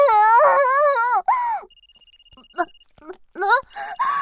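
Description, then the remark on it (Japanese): A smartphone rings with an incoming call, a thin, steady electronic tone sounding in short repeating pulses at moderate volume between and beneath a woman's high, drawn-out moaning vocalizations. “スマホ、あの人から着信。”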